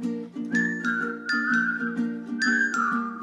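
A person whistles a bright, sliding tune over steady, chiming musical accompaniment, with the whistled notes gliding and repeating in short phrases, clear.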